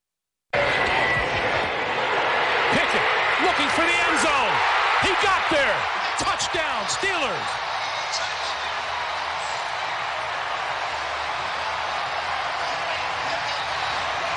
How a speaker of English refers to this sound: Listen to that crowd yesterday. That was the highlight of the game. Kenny Pickett rushing for two touchdowns, coming in into the game from halftime onto the field, and there was a surge of people that noticed that he was warming up